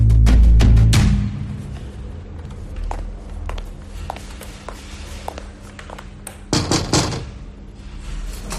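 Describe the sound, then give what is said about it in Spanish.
A door opens with a heavy thud, followed by scattered light clicks and rattles, then closes again with another solid bump near the end. No one speaks. “¿Se puede, comisario? Adelante, Monzo. Cierre la puerta, por favor.”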